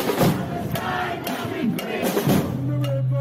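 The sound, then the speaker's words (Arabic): A large crowd at a mass protest march through the streets of Manchester, Britain, chants in unison slogans of freedom for Palestine, loud rhythmic shouts rising and falling in bursts, with a steady low hum underneath and no single voice standing out. “وفي مدينة مانشستر البريطانية خرجت تظاهرة حاشدة جابت شوارع المدينة، رفعت هتافات الحرية لفلسطين وفلسطين من البحر إلى النهر”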